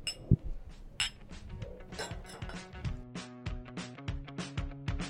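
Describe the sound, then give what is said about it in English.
Several bright glass clinks ring out, bunched together like a toast, with a low sustained musical tone underneath toward the end. “Let's keep drinking responsibly out there. Cheers. Cheers.”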